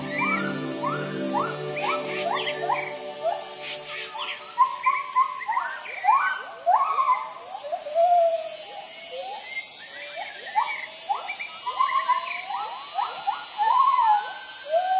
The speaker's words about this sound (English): Each morning upon awakening, the gibbon family announces its presence using their territorial hooting call that can be heard several kilometers away.